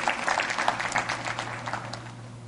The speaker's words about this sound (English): Yeah, you can give him a big hand clap there.